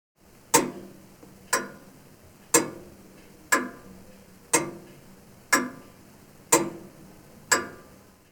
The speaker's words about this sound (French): I can hear a grandfather clock. J'entends une pendule.